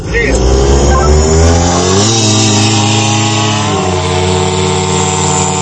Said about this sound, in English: The launch is always one of the most difficult and most sensitive parts of the mission. They have to follow the UAV very fast with their cars to make sure it gets into the air all right. The drones disappear quickly into the night sky.